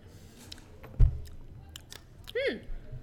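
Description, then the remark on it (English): At an anime convention, someone bites into crunchy food with one loud snap, followed by scattered crisp chewing clicks and a short murmured vocal sound near the end. “Everyone's making the. Sound in this room. So, I feel like my initial assessment of this is going to be like biting a watermelon rind was right.”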